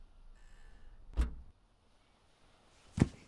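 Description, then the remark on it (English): A car trunk slams shut with a heavy thud after a last bag is tossed in, in a parking lot, preceded about two seconds earlier by a sharper knock, over a faint background hum. No voices. “You tossed the last bag into the trunk and slammed it shut.”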